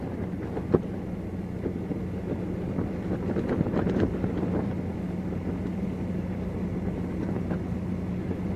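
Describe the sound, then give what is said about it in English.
Steady wind blows outdoors on a hot day, rumbling and buffeting against the microphone, a continuous low roar with occasional gusts and soft thumps, moderately loud throughout with no voices. “It's windy. Not mad windy, but windy.”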